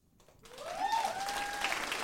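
Audience applause swells into a steady, loud clatter of many hands clapping, with a high whistle or cheer rising and holding above it.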